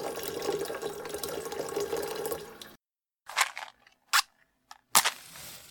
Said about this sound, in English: He dropped her hands and strode over to the kettle, poured water into it and lit the gas underneath.